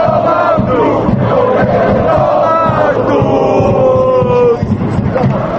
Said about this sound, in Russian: все это вызвало гнев болельщиков, которые теперь во время матчей скандируют речевки, содержание которых по отношению к главе кабинета министров не назовешь доброжелательным.